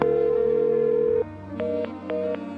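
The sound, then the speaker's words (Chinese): A steady telephone dial tone hums for about a second, then stops, followed by a quick series of short keypad beeps as a number is dialed, clear. A furniture shop salesperson is phoning the boss. “哦，这样好了，我打电话请示一下老板好吗？”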